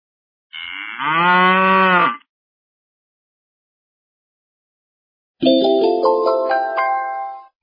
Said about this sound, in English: Pigs oink and cows moo.